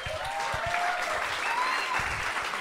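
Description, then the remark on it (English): An audience claps steadily throughout, a dense, even crackle of many hands at moderate loudness with no pause, plus a few faint high whistle-like tones on top. “Do not clap for that motherfucker.”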